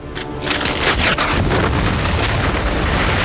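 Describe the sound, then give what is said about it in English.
An apartment blows up as explosives under the bed go off: a loud deep boom, then a sustained roaring rumble with a crackle of glass and debris raining down on the street below for several seconds. “The apartment blows up and glass and debris rain down on the street below.”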